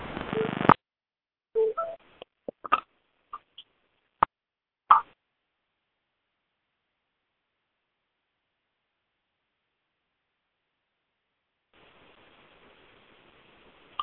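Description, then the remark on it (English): A burst of scratchy static on a phone line gives way to a scattered series of short electronic beeps and clicks, phone keypad tones as callers mute their phones, then silence before faint hiss returns near the end. “Let's all mute our phones and then see what happens.”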